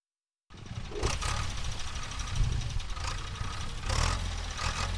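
A tractor engine chugs steadily with a deep, rumbling drone, broken by occasional rattling surges of mechanical noise, as it tills farmland for crops at Jalukange Irrigation Scheme near Zimbabwe's border with Botswana, about 600 kilometers south of Harare. No one speaks.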